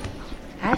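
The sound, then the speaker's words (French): A dog that its owner has had for two years lets out a short, high-pitched whimpering yip toward the end of a brief moment, after a few quieter murmuring whines. “Vous l'avez depuis combien de temps, votre chien?”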